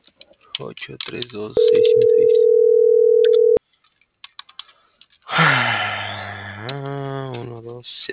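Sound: telephone line tone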